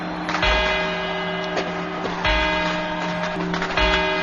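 A clock tower rings its quarter chimes before the twelve midnight strokes on New Year's Eve, in a 1990 Televisión Española broadcast: three bright, resonant bell strikes spaced a couple of seconds apart, each left ringing over a steady background murmur.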